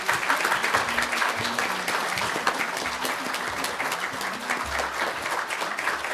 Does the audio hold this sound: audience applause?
yes